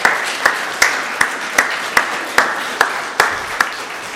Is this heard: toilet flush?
no